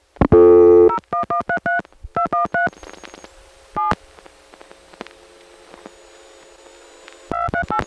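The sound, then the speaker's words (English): A rapid series of touch-tone dialing beeps from other customers dialing, heard over a phone line connected to a customer dial pulse receiver: short paired tones in quick bursts, with faint hiss and a steady background tone between bursts. “See, as long as you're connected to the CDPR, you can hear other customers dialing. There's rotary dialing, there's touch tones”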